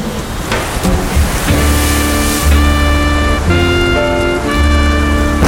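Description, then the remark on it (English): A loud, steady roar of wind and rain sweeps through a stormy wash of noise, while sustained musical tones hold and shift above it. No one speaks. “Damn the storm!”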